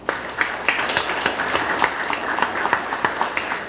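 A crowd applauds steadily for several seconds, a dense wash of many hands clapping with sharper individual claps standing out, and no voices on top.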